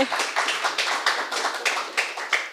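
An audience at a live panel discussion applauds to welcome three guests, with a steady patter of many hands clapping, moderately loud, with individual sharper claps standing out through the wash of sound. No one speaks.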